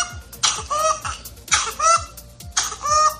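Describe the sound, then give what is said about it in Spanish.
A child's whooping cough (pertussis) fit, the so-called whoop of whooping cough: three drawn-out, high-pitched whooping gasps in quick succession, each following short coughs, fairly loud, with a crowing, honking quality and no talking. “Es el llamado gallo de la tosferina.”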